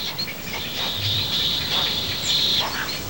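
A steady chorus of many egrets calling at once on the branches around a heron's nest, a dense, raspy chatter of overlapping high cries that carries on without pause for the whole stretch, with no voices.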